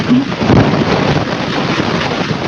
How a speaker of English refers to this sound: Getting the sound effects of breaking waves. It's kind of nice.